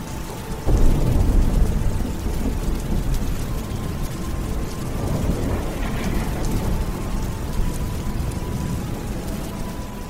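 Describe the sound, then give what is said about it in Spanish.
Heavy rain drums violently against the windows and rooftops of an inn on a cold winter night, a dense, continuous patter, with a deep rumble of thunder rolling in near the start and no voices. “En cada estancia de la posada del Cuervo sonaba el ruido de la lluvia golpeando los cristales y los tejados con violencia.”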